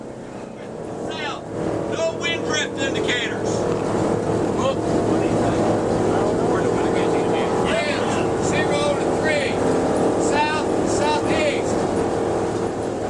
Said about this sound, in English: Inside, the sounds of the plane's engines and the wind howling through the open door at the rear echo through the sparse interior, where a group of paratroopers sits waiting to reach a drop zone.